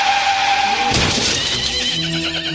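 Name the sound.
horse neighing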